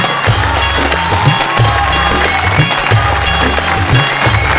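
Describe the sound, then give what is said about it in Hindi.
An audience applauds in honour of a singer, a dense, steady wash of clapping that runs loud for the whole few seconds, with low thumping beats pulsing underneath at a regular rhythm. “मैं चाहूँगा कि ऐसे कलाकार के लिए एक खूबसूरत सत्ताली हो जाए”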